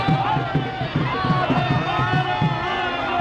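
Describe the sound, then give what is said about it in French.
A crowd in India clamors steadily as Narendra Modi's motorcade of ministers and special forces agents passes, many voices shouting and calling over one another at a strong but not deafening level, with a faint rhythmic thumping beneath the din throughout. “les clameurs, si elles restent fortes, sont loin d'être assourdissantes.”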